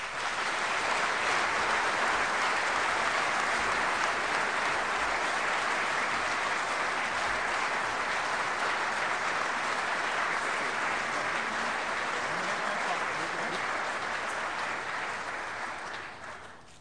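A big, sustained round of applause from many people, dense steady clapping that stays loud for about sixteen seconds before tapering off at the end, with no talking over it.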